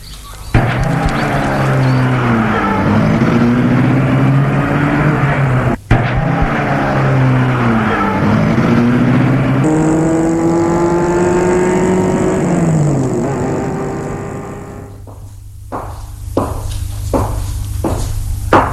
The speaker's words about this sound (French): Ils entrent dans la voiture tous les deux, au siège arrière. Le chauffeur met la voiture en route.